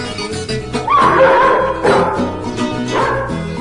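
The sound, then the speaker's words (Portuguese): A dog barks and yips about three times in short, tonal bursts, moderately loud, over a steady musical backing. “Sai, cachorro.”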